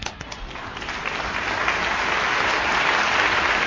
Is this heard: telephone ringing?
no